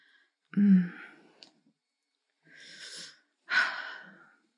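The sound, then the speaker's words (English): Three heavy, ragged breaths with pauses between them, a sharp gasping inhale followed by two long, noisy, airy exhales, moderately loud with no talking. “Control your breathing.”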